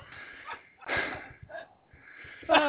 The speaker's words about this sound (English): breathing into the mic.